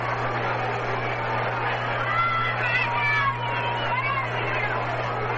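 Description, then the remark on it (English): The largest Sunday single-game crowd in New York Mets history, at a Mets game against the Giants, keeps up a steady, dense roar of chatter throughout, with a few higher whistles or shouts rising briefly in the middle over a low constant hum. “This is the largest Sunday single game crowd in New York Mets baseball history.”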